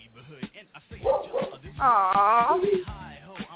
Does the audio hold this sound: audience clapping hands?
no